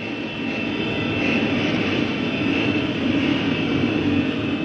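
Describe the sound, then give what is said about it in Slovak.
Many large-displacement motorcycle engines roar together in St. Peter's Square, lined up with help from motorized police to greet Pope Benedict XVI: a dense, continuous blare, a deep rumble topped by a steady high whine, loud and unbroken throughout with no voices. “Delikátnym spôsobom za pomoci motorizovanej polície sa na námestí svätého Petra zoradil veľký počet motoriek vysokých kubatúr a pozdravili pápeža Benedikta XVI. Osobitným spôsobom.”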